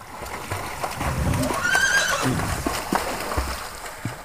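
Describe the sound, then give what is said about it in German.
A horse whinnies loudly, a rising, wavering neigh in the middle, with faint hoof clops and shuffling around it and no talking. “Auf magische Weise kam ein Pferd aus dem Wasser.”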